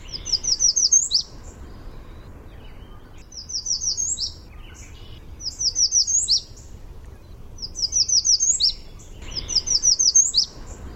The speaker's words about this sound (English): Yeah, this month we are profiling a busy, flitty warbler known as the American Redstart. Their song is highly variable, and we're going to listen to one example here.